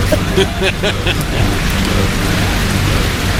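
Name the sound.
rain falling with thunder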